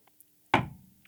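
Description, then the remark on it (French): A single solid knock on the wooden door of a castle, a fairly loud thud with a short resonant decay, followed by near silence. “Et il arrive pour frapper à la porte.”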